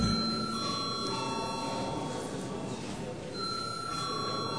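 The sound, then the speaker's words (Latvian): The bell in the chamber of the Saeima, Latvia's parliament, rings continuously and loudly for several seconds, a steady electric trill filling the hall with a faint murmur of room noise beneath. “Lūdzu zvanu.”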